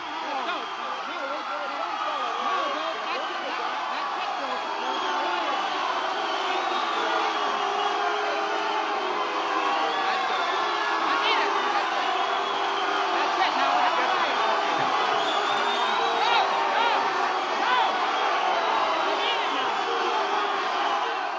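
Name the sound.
concert audience booing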